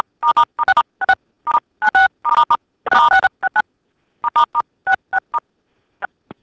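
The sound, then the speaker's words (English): A rapid, irregular flurry of telephone keypad tones as people on a phone call press star six to keep the line open, dozens of short beeps, some overlapping, with a brief pause midway before more presses and a few final scattered beeps. “Before we go any further, let me ask everybody on the call to hit *6 on your phone so we can keep this line open.”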